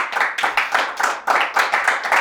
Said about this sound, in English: Don't make me. No. Stop clapping.